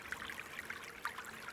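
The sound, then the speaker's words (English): Water trickles steadily from a crack in the rocks at hot springs, with soft bubbling and small splashes, a quiet, continuous babble of a thin stream with no voices. “The only sound is the water trickling from the crack in the rocks.”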